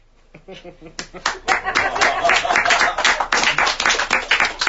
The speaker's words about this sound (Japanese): 哀れみの拍手ですよね。